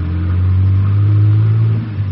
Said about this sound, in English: We went across the street, got in the car, and took off. The fog was so thick you couldn't see 20 feet in any direction.